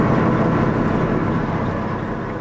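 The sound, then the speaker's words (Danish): A vintage bus engine rumbles steadily from inside the vehicle, a loud, continuous low drone with mechanical clatter and road noise, no voices. “Jeg skal lige nyde busturen her”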